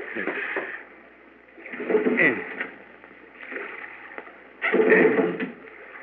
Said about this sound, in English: Now, let me get my hands on that outboard.